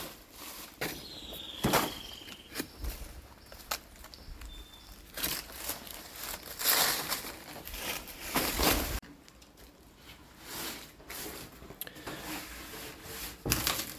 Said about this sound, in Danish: Vi skal have skåret nogle friske bananblade af, eller rettere sagt madbananblade. Og dem bruger vi til at fore vores fermenteringskasser med. Det er nogle kæmpe blade.